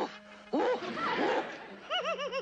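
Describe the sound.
A hypnotized person, told to bark like a big dog, imitates a big dog barking, voicing a string of short, arching woofs, then a quicker run of rhythmic yaps at the end.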